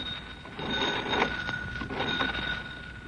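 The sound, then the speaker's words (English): An old telephone bell rings continuously for about three seconds, a steady metallic jangle with slight pulsing, moderately loud, with no voices, as Lum puts in a phone call from the jot-em-down store in Pine Ridge. “Lum is putting in a phone call. Listen.”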